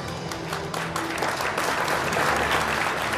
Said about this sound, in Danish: Men det er stadig et meget sløv bifald.